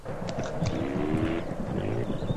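A steady, buzzing engine drone of a plane in a video game where the player jumps between planes, holding at an even loudness through the whole moment with a faint wavering pitch and no voices.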